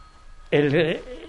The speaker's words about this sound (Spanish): Ese es su teléfono. Mire, mientras usted lo apaga